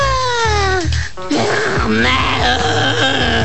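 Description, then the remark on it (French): Someone strains with a voiced, wavering groan while holding their breath, then lets it out in an audible gasping release, fairly loud over a low, pulsing background. “Je retenais ma respiration jusqu'à ce que je vois une autre tour de contrôle.”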